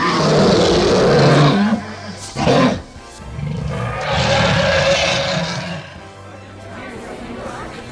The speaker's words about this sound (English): The children heard the roar of the dragon from the other side.